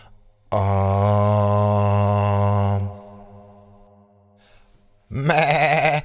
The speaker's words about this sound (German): Ich bin der Ziegenbock vom Milch- und Käsebauernhof vorm Wald. Da leb ich mit ganz vielen Zickenschwestern.